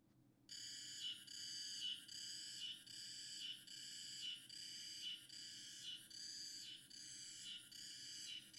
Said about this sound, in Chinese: 这天气热的，知了都叫个不停。